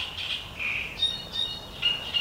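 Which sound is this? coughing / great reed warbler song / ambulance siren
great reed warbler song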